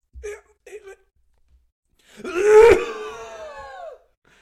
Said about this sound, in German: Wenn du, dass du laut gehustet hast, merkt man daran, dass sowohl dein Pegel als auch mein Pegel maximal ausgeschlagen ist. Das sind auf jeden Fall jetzt alle wach.